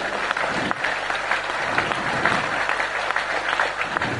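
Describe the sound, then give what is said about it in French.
An audience claps steadily for several seconds, a dense, continuous wash of applause with no voices standing out. “On peut applaudir nos frères et sœurs qui risquent leur vie.”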